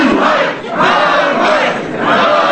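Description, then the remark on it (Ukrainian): A large crowd of about 200 protesters at a rally in Poltava, Ukraine, chants slogans in unison, a loud, dense roar of many voices rising and falling in rhythmic surges throughout. “Скандували вони.”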